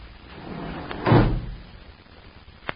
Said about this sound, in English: disappear behind the elevator doors.